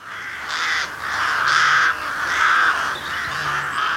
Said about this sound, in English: Six crows circle, deep black, against the bright sky.